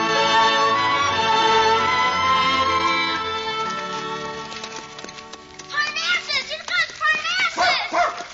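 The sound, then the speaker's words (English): After a stretch of sustained, droning musical tones, the dog Bark lets out a rapid series of short, yelping barks at a hound, fairly loud, in an uneven rhythm. “Stop barking at that hound, Bark.”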